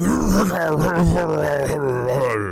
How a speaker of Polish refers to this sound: Czasopismo Nature podało, że słonie afrykańskie zwracają się do siebie po imieniu. Imiona przyjmują formę chrząknięć, a ich wyuczenie zajmuje kilku lat.